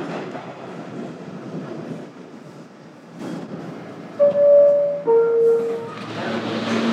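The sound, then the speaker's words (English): A train rumbles steadily along the rails, with a couple of sharp metallic squeals from the wheels partway through and a rising rush of noise toward the end. “All right, made the train. Things are looking up.”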